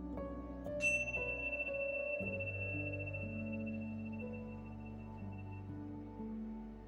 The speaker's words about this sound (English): During this audio guide, you will hear the sound of bells.